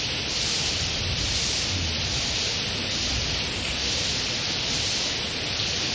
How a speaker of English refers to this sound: everything is cleansed by Krishna sending all of this rain. The atmosphere becomes cool, and the sound of the rain is also very pleasing